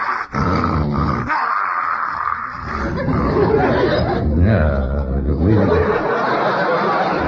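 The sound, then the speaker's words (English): A German shepherd growls and snarls continuously and loudly, a rough rumbling sound that swells and presses on for several seconds without pause. “And besides, these German shepherds is used to handling sheep.”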